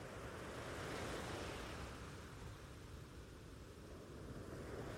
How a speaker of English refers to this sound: But for now, just continue to walk along the beach and let the sound of the ocean waves wash over you, calming your mind and body.